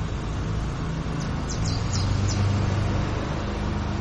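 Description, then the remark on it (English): A steady engine drone with a low, buzzing hum runs throughout from a lawn mower mowing a lawn outdoors, while a few short, high bird chirps come through in the middle. “That's the mowing of the lawn.”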